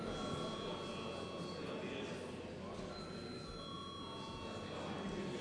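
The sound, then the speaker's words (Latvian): A steady, continuous ringing of a bell summoning members of parliament to vote on urgency for a bill amending the State Security Institutions Law, holding at an even level for several seconds, with a faint murmur of voices underneath. “Lūdzu, zvanu.”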